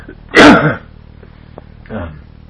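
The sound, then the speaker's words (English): A single loud, harsh cough bursts out, followed by a brief pause and a softer, shorter cough or throat-clearing sound. “Excuse me, I'm gonna cough.”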